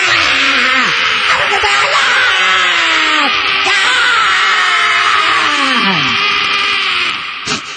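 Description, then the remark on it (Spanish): A voice imitates a crowd of female fans screaming hysterically, a continuous, loud, shrill high-pitched wail sustained for several seconds with wavering pitch, fading abruptly at the end. “¿Qué gritan las fanáticas en esos momentos? Siempre lo mismo.”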